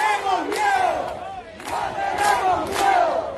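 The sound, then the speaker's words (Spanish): A large crowd of hundreds of protesters in a street shouts together in loud, sustained waves, many voices rising and falling in rough unison with sharp bursts of yelling every second or so. “Miren, son cientos y cientos de personas”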